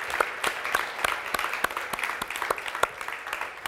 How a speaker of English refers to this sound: Can we give God clap offering for Olav? Kan vi gi Herren og alle sammen en takke offer? Ja.